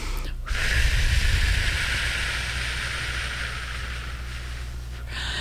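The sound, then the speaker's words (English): A single long, steady breath drawn slowly and deeply in for a count of eight during a breathing exercise, a soft airy hiss lasting several seconds with a faint low rumble underneath and no talking. “Breathe in for 8. Hold for 8. Exhale for 8.”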